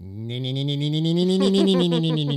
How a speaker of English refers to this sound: the goddamn cicadas, which is like the soundtrack to every summer back here. I cannot stand them.